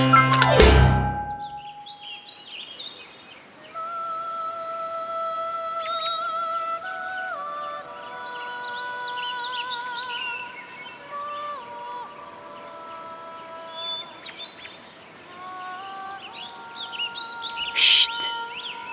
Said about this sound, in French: Écoute, t'entends? C'est beau, non? Il n'existe pas au monde un oiseau qui possède un chant aussi délicieux, sensible et léger que celui du rossignol. Le rossignol est un petit oiseau gris, mais sa voix est colorée comme l'arc-en-ciel.